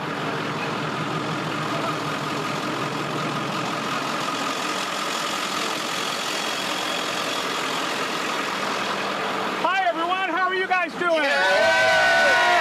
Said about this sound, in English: Yay! Yay! The party bus!